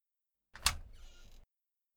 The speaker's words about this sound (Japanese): 扉が開いたのか。